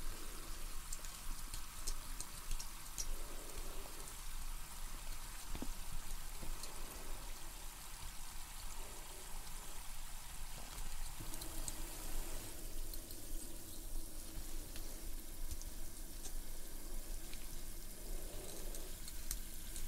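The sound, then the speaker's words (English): A steady hiss of cold water being sprayed out during a dental teeth cleaning, running continuously without a break, with its texture shifting slightly partway through and no voices over it. “So again, we'll just be blowing out some cold water.”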